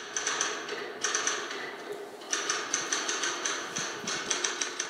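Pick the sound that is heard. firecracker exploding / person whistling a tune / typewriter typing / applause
typewriter typing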